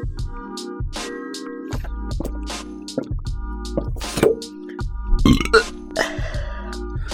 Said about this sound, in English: Excuse me. I paralyze it. You can't paralyze a burp. You don't know that. I do, I've tried.